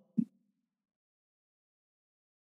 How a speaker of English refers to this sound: who's coughing?